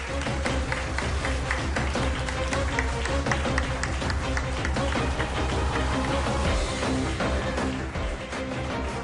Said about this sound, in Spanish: Y hoy el programa lo realizamos desde la Casa de la Cultura de Hermigua, aquí en la isla de La Gomera. Que se sienta el calor de este pueblo que nos acompaña. Os pido un aplauso.